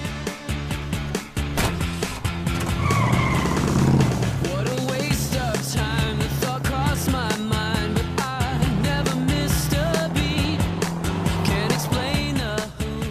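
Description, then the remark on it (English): The engine of a big, shiny sports car revs loudly, its pitch climbing as it pulls away, followed by a sustained roar of driving down a sunny country highway with sharp, busy transients throughout. “Jack takes the keys and gets into the big shiny sports car.”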